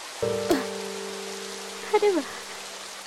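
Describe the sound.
Steady rain patters in a broad, even hiss throughout, with a low hum beneath; a person speaks briefly over it near the start and again toward the end.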